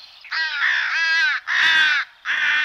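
A crow caws loudly, three or four harsh, raspy calls in quick succession with short gaps between them, no voices present.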